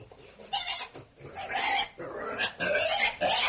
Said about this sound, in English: we have quite a few pigs, baby pigs, mama pigs, papa pigs, all ready to be inoculated with the hog cholera vaccine. Are you ready with your needle? Oh, yes. That must hurt.